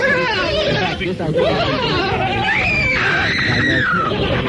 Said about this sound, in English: The victim in the center will be pierced with spear points 1,000 times. It is called the Celebration of 1,000 Screams.